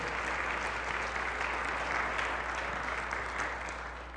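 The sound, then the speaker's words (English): An audience applauds veterans in appreciation of their service, a steady, dense wash of clapping hands that holds fairly even for several seconds before easing slightly at the end, with no one speaking over it. “I hadn't really planned those remarks, so I didn't plan to prompt the applause.”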